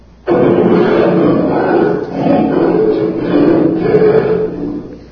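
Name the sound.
lion roaring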